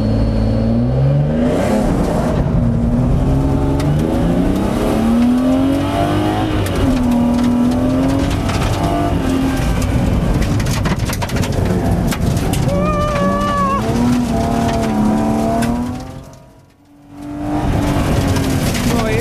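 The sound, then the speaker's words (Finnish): A car engine rumbles steadily and revs up repeatedly, its pitch rising and falling with each acceleration, loud throughout, before briefly dropping off near the end and picking back up. “Ropina käy.”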